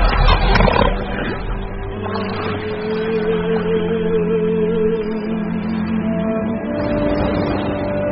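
Elephant seals on Macquarie Island in the Pacific, arriving in August after months at sea to breed, roar in deep, guttural bellows, several overlapping calls forming a loud, continuous drone with no one speaking.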